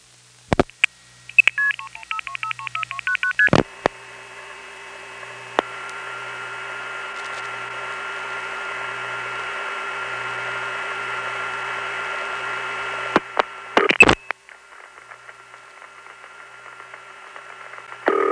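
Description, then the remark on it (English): A rapid burst of telephone dialing tones, followed by a steady loud tone over line hiss, then clicks and a quieter humming line tone, like an old telephone network call being placed. “In any event, notice the ballsy dynamics on this call. I mean, the old network had some heavy bass and some pretty good dynamic range.”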